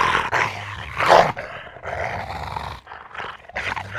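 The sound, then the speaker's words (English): Several dogs growl and snarl inside a house in a continuous, rumbling stream, with harsher bursts of snarling breaking through, including a loud surge about a second in. “More snarls rang through the house as two more dogs emerged from her bedroom, their eyes piercing and opening with devilish intentions.”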